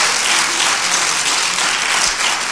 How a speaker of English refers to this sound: Clap your hands for TD. And his covering.